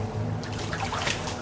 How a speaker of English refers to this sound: Empty out that bucket, you monster!